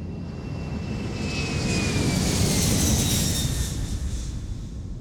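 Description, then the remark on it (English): A steady engine roar swells and peaks midway before easing slightly, with a thin rising whine riding above the broad rumble, as a flying car takes off into the sky at the push of a button. No voices. “Push it, and then in the wink of an eye, the car will take off. We'll be up in the sky.”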